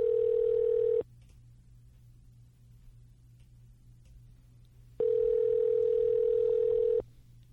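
A telephone line's ringing tone while calling a man to talk about habitat and deer hunting: two steady, buzzy electronic tone bursts, one short and one about two seconds long, separated by a pause with only a faint low hum underneath.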